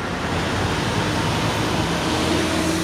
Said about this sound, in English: If this sounds like busy traffic to you, it may sound like silence compared to the traffic much of South Carolina will experience on August 21st.